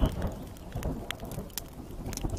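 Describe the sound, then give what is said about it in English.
Steady video game rainfall hisses across the whole clip, with scattered sharper drop patters and a low, rolling rumble of thunder underneath. No one speaks. “It's going to rain again.”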